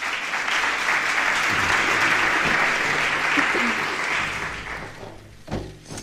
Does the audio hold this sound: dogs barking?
no